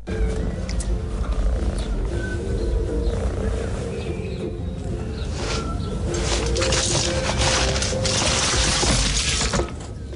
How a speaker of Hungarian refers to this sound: Doromboljunk együtt.